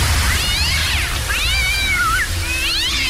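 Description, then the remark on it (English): A cat yowls three times in long, wavering cries that rise and fall in pitch, loud, over a steady hissing rush of background noise. “Includes adjustable spray settings for Mormons, charity collectors, and cats.”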